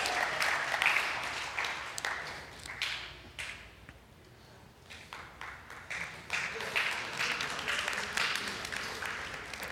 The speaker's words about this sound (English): Look, they're applauding, so come on up here.